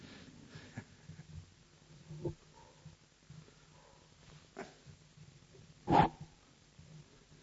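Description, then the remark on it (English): A few sharp, scattered dog barks sound in an otherwise quiet setting, the loudest landing near the end, with no one talking. “I knew those dogs will bark sooner or later.”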